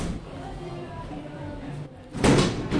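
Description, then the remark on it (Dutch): A door slides open near the end with a brief, broad whooshing rush as people walk through from the lift into a restaurant area, over a steady low background murmur. “Want als je nu de deuren doorloopt, dan stap je echt even een andere wereld in.”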